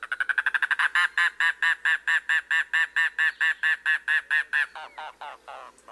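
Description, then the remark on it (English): A mangrove cuckoo, a secretive bird of the Everglades and Florida Keys, gives a long, steady series of harsh, guttural nasal notes, about twenty-five in a row, starting quick then evenly spaced and trailing off slower near the end, loud. “There lurks a more secretive bird in the Everglades and Florida Keys, the mangrove cuckoo.”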